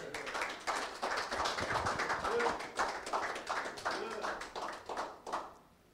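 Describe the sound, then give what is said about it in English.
A crowd claps steadily and densely for several seconds, the applause loud with scattered voices mixed in, then tapering off near the end, given as a clap offering to God during a sermon. “Come on, let's give God a clap offering.”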